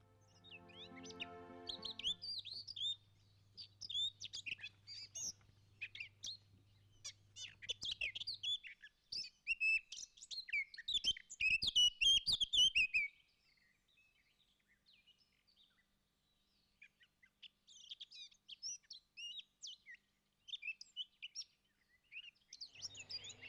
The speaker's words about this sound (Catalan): Sí, sí, estem ja en el passeig, eh? Per accedir-hi mentre sentim els mixonets.